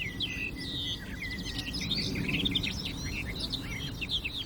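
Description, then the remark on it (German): A barred warbler sings a rapid, chattering, melodious song of varied high notes and short phrases, running continuously over a low, steady rumble of background noise. “melodiöse, plappernde, aber auch volle Gesang der Sperrbargrasmücke.”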